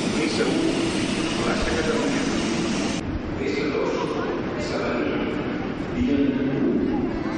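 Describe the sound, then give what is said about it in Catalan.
A steady, loud rumble of a metro train running along the track between Sarrià station and Plaça Catalunya, with a continuous rushing roar and faint muffled voices inside the carriage. “Van anar i venir de l'estació de Sarrià a Plaça Catalunya.”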